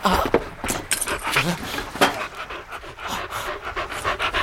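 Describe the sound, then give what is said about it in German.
A dog pants hard and fast, its rough breaths mixed with scuffling noises as it attacks a man at his throat, continuous throughout. “Nehmt den Hund von meiner Kehle.”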